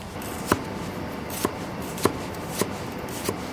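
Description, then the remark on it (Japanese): Five crisp knife strikes against a cutting board as green onions are chopped with the heel of a santoku knife, spaced in a slow, slightly uneven rhythm, over a faint steady hum. “肉をこうさばきやすいようにっていうのでカーブしてて開くんですけど、これが結構野菜切るときにネギがつながっちゃったりとかするんで、三徳で野菜切るときは必ず根元の方で。”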